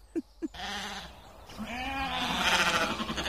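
Two sheep, kept as grazing lawnmowers and separated from their flock, bleat repeatedly, calling for the rest, overlapping wavering calls rising and falling in pitch, answering one another, preceded by two short low thumps at the start; no talking.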